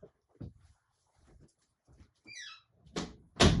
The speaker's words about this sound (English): I had to shut my door.